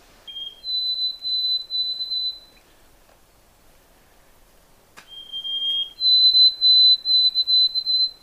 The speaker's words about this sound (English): That's the perfect sound for camping out in the woods to hear. That's the white-throated sparrow. And if you live up here, you'll be fortunate enough to hear it too. It's a clear whistle, something that you can whistle so that you can remember it